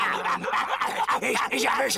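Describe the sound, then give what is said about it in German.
A dog down below barks and yaps in a rapid, continuous series of short, pitched calls, fairly loud, with no pauses between them. “Dazu müsstest du aber schon ein fliegender Hund sein.”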